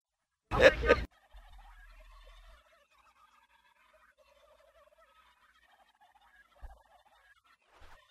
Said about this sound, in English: One of my turkeys got loose. Have you guys? Yeah. Have you guys, by any chance, seen a turkey up there? Yeah. All dressed in black feathers. He's all black. This is not a little chicken.